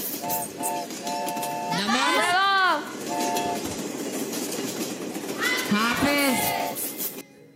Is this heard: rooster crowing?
no